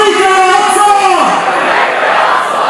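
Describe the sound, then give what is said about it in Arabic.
A crowd in Jabalia that came out of mosques in the north chants at a rally for the prisoners, voices holding sustained, harmonic pitched tones for about a second before dissolving into a loud, dense wash of shouting. “الجماهير التي خرجت من مساجد الشمال هتفوا لحوار والأسرى، وأكدوا على أن الفاشية الإسرائيلية زادت إيمان الشعب الفلسطيني بخيار المقاومة.”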